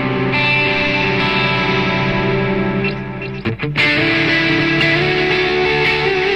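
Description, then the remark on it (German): A loud, sustained distorted guitar drone played through delay, notes smearing and repeating into one another, with a brief choppy break midway before the wet wash swells back. “Aber ihr seht, wo die Reise hingeht, also ich kann halt mit dem Delay.”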